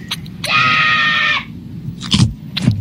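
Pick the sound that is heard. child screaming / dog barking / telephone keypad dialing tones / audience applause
child screaming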